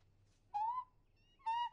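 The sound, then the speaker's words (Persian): A penguin calls twice, each a short, clear, slightly rising honk-like cry about a second apart, over a faint low background hum. “مامان، پنگوئن داره با تو حرف میزنه.”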